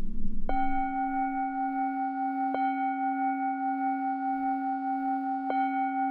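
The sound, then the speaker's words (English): A deep bell tolls three times in a video urging Americans to protect democracy. Each stroke rings into a long, steady hum with a slow wavering shimmer that carries straight into the next strike. “And as the bell tolls in that, you see a message on the screen that says, "This video is not real, but the message is," urging Americans to be on guard, to protect democracy, and to protect against the spread of misinformation.”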